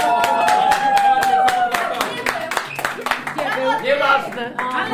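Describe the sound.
A small group applauds a man who found his costume, clapping in a steady, fairly quick rhythm for about five seconds, loud, while voices talk and call out over the clapping.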